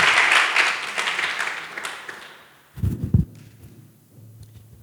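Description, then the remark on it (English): An audience applauds before a prayer, with dense, crackling clapping that gradually thins out, followed by a few low thumps and a softer murmur of movement as the applause fades away. “So you can clap if you want to.”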